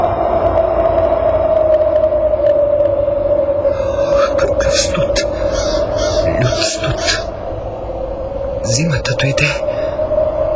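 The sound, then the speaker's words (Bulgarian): A loud, icy wind howls in one long, steady moaning tone, with rushing gusts and brief bursts of higher hissing swelling partway through and again near the end. “Вятърът е леден.”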